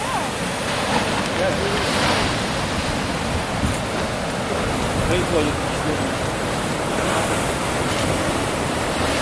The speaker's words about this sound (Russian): Где бы вы ни находились, в Калифорнии, логика движения непременно приведет вас к побережью. А на побережье красиво. Волны.